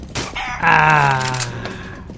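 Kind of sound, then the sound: animal, chicken clucking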